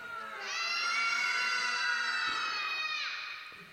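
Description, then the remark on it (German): A group of children, asked to scream together for three seconds, give one sustained, high-pitched shout lasting about two and a half seconds, loud and steady before cutting off sharply. “Und dann müsst ihr schreien. Ja? Schaffen wir das, 3 Sekunden zu schreien?”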